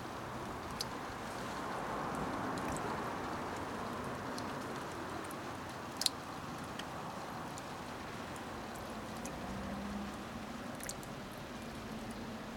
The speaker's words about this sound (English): I hear the rain pattering on the roof above me, dripping down the walls to my left and right, splashing from the drain pipe at ground level on my left